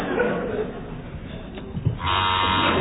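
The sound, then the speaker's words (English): A quiz game buzzer, pressed by a contestant, cuts in loudly partway through and holds as a steady, harsh electric drone, after a stretch of soft murmuring background noise. “Fingers on buzzers, please.”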